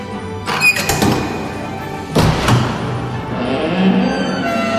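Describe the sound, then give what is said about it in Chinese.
A combination lock clicks as it is turned to the door code 8, 6 and 21, then a heavy mechanical clunk and a door swinging open, followed by a low, steady rumble with no voices. “耶！打开门了！”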